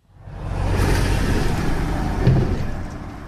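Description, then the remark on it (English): A steady, loud low rumble of heavy truck traffic, 18-wheelers rolling along Route 22A, a designated truck route through the historic city center of Vergennes, with a broad engine drone that swells slightly near the end. No voices are heard. “The constant rumble of 18-wheelers have led many residents and business owners to look for ways to reduce the truck traffic.”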